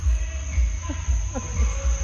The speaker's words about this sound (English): It's extremely annoying, and I would appreciate it if these neighbors would stop making so much noise. As you can hear, the music continues. There is a medley.